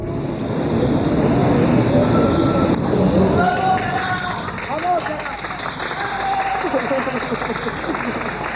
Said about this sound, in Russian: Вы услышали аплодисменты и выкрики «Браво, Каллас!». При первом просмотре этих кадров меня покоробило, и я подумал, какое кощунство. Но потом, поразмыслив, я понял, что толпа почитателей отдала последнюю дань восхищения величайшей певицы.